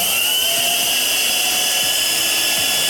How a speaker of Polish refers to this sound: Drodzy państwo, jedyna okazja usłyszeć w radiu oryginalny silnik elektryczny, napędzający, oryginalny z epoki odkurzacz, wyprodukowany w latach 70. przez firmę Zellner.